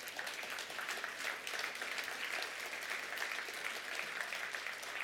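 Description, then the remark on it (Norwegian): A crowd applauds steadily, a dense wash of many hands clapping that holds at an even, fairly loud level for several seconds with no voices breaking through. “Gi deg en applaus.”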